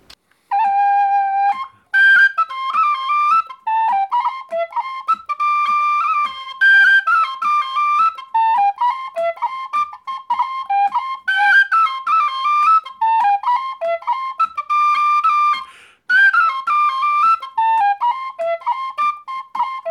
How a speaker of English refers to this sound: So this is what the tune is supposed to sound like, again, kind of using a B-flat whistle. This is Miss Boswell's Jig.